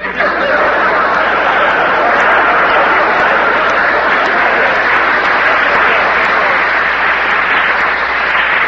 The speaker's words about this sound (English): there's two ways to take that applause.